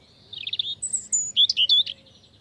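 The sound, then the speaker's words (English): A European robin, a small garden bird with a red-orange breast, sings a clear, high, warbling phrase of varied whistled notes and trills, fairly loud over a faint low hum, with no voices. “Like the American robin, the European robin is a bird of yards and gardens and has a red-orange breast, so it's often called robin redbreast, or just robin.”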